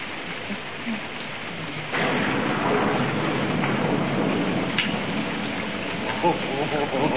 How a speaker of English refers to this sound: Where are you? We've been struck by lightning.